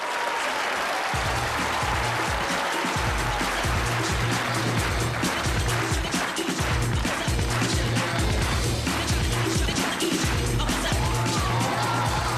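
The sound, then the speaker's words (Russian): A crowd claps steadily and loudly throughout, with a rhythmic music backing pulsing underneath the applause; scattered cheers rise occasionally from the audience. “А зал аплодисменты и музыки.”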